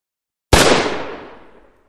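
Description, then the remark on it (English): A single blaster shot fired into a man lying on the ground bursts out of silence with a sharp, loud, full-bodied crack, then its hissing, rumbling tail fades away over about a second. No voices accompany it. “The blaster discharge slammed the body flat, the muzzle blast setting fire to the mutilated shirt.”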